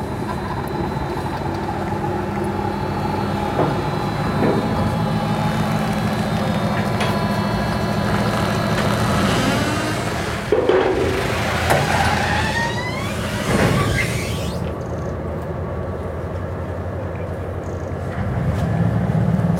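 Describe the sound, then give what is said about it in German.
A steady engine drone rumbles throughout, with a low mechanical hum and occasional clanks and rising whines, as a small ferry pulls away to cross back to the other side on a short crossing of about 100 to 200 meters. “Bodo wieder auf die andere Seite. Da fährt er wieder ab.”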